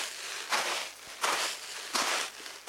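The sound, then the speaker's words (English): Three slow, crunchy footsteps pressing into gritty sand in a sand pit, used to imitate footsteps in snow, each a broad hissing crunch evenly spaced about three-quarters of a second apart, standing alone with no voices. “Other times, they'll just use the sand in their sand pit.”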